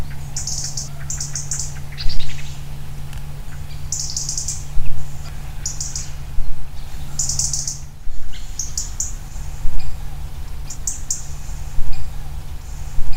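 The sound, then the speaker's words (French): A European robin gives short, sharp high-pitched call notes in small clusters, repeated every second or two, standing out clearly over a steady low background hum. “Là, c'est le cri du rouge-gorge.”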